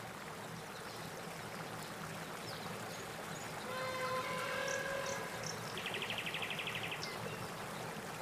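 Steady rushing of river water flows throughout at moderate loudness during a boat journey on the river, joined midway by a brief rising tonal call and then a short, high insect-like buzzing. No one speaks.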